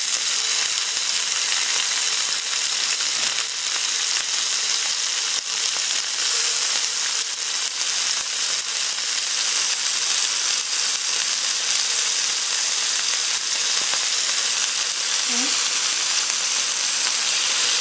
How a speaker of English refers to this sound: What we're gonna do is now just put some olive oil in here, and pan is really nice and hot. To this, I'm just gonna go ahead, and you can hear that sizzle. And that's exactly where I want my pan to be.